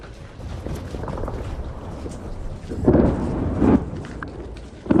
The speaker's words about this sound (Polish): Duże zagrożenie. Artyleria pracuje tutaj naprawdę intensywnie i stanowi zagrożenie. Często to jest takie bardzo chaotyczne i losowe działanie. Ono wciąż jest bardzo, bardzo niebezpieczne.